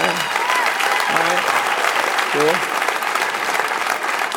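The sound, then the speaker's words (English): A crowd of audience members applauds to show they are married, steadily and loudly for the whole stretch, a dense patter of many hands, with a couple of short whoops and voices rising briefly over the clapping. “By applause, married people?”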